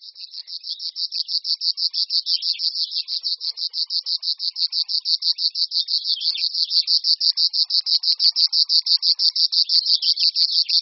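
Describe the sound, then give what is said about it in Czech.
A river warbler sings a long, steady, insect-like buzzing trill, rapid pulses repeating evenly and loudly for the whole stretch with no other sounds. “Tento podivný zpěv vychází z hrdla ptáka z příbuzenstva rákosníků. Vydává ho málo známý pták cvrčilka říční.”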